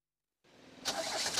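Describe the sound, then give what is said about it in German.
A car engine cranks but fails to start, a whirring, grinding starter noise that begins abruptly, then swells louder with rough pulsing bursts. It is heard alone, with no talking. “Was ist denn los, Karl? Ist der Wagen kaputt?”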